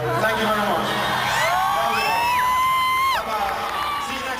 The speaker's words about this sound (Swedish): Ett fan filmar när … tackar publiken innan bandet lämnar över till …. Publiken skriker.